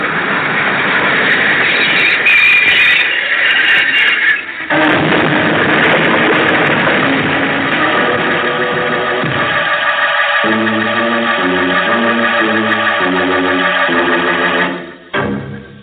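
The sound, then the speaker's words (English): A train pulls into a station with a loud, steady mechanical rumble and hiss that settles toward the end, followed by a few brief tonal notes; no one speaks. “See? The train's come in.”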